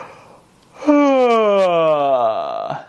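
A long, voiced yawn, done as the first step of a quick warm-up to open the throat before singing, rises in with a breath and slowly slides downward in pitch for nearly two seconds. It is loud, drawn-out and deliberate, with no talking.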